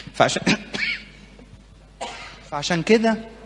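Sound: cough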